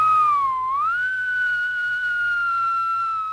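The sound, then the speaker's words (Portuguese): A person whistles one long, clear, loud note that dips briefly, slides back up and holds steady, over a faint low pulsing hum, evoking the Tibanaré of Cuiabá legend, an old man who wanders the streets whistling at dusk. “Mas a maioria vai dizer que o Tibanaré é um homem velho, vagando pelas ruas, assobiando ao entardecer.”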